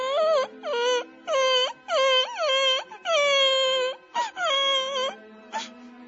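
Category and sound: human body sound, young boy crying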